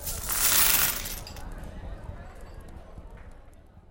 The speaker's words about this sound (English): All right, well, let's toss the coins across the table to cement our bets.